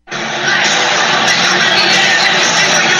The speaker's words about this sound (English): The crowd's going nuts. Donald Trump walking in, I think looks like he's in an orange tie.